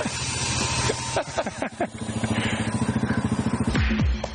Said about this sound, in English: Oh, there's a motorbike there! No, there. Look.